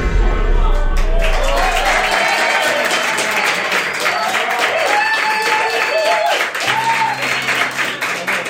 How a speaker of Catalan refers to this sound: Que també aplaudi ara, d'acord, agraeixo l'aplaudiment, però portem 20 minuts parlant de la Vesna.